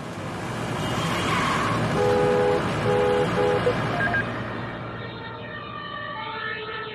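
emergency vehicle siren

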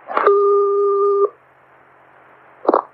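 telephone dialing tones

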